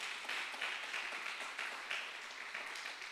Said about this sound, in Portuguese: Você pode dar mais um aplauso ao Senhor aí?